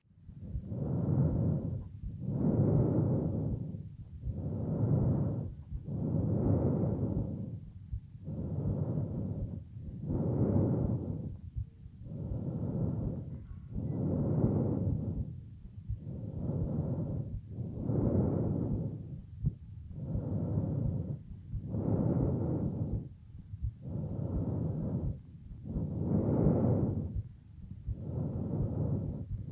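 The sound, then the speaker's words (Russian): Loud, harsh laryngotracheal breath sounds recorded over the thyroid cartilage of the larynx, a steady rhythm of about fourteen hollow, rushing inhale and exhale bursts with brief pauses between them and no talking. “Прослушайте ларинготрахеальное дыхание, зарегистрированное в области щитовидного хряща гортани.”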